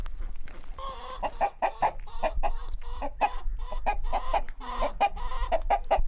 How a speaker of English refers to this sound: We're in the chicken pen now, so I have khaki Campbell ducks, an array of hens, Rhode Island reds, a few lavender, a few blacks, and my rooster.